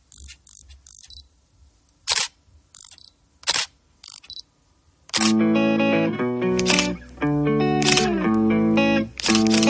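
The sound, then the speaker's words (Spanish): A rapid series of sharp camera shutter clicks with brief mechanical whirs, loud and irregular, then bright melodic music comes in at about five seconds with a few more clicks over it. “Vamos a retroceder 50 años a golpe de disparo de cámara fotográfica.”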